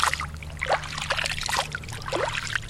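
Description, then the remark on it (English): Spring water, scooped by a farmer from one of the two springs of his village of Mungkupi, trickles and splashes through his fingers in a steady dribble, with small droplets pattering irregularly as it falls, over a faint low hum in the background. “president of the grassroots group Black Mesa Trust and a Mungkupi farmer, scoops water out of one of his village's two springs and lets it fall through his fingers.”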